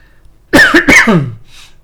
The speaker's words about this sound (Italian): Scusate, ma c'ho ancora un po' di tosse.